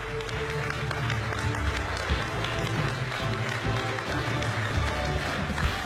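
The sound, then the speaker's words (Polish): An audience applauds steadily for several seconds, a dense, even wash of many hands clapping at once over a low, continuous background hum. “Ogromne brawo.”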